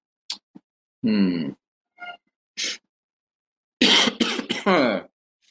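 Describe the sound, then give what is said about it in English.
A person clears their throat and coughs in a string of short, rough bursts, ending in a louder cluster of hacking coughs. No one speaks. “I hope my coughing sounds great, guys.”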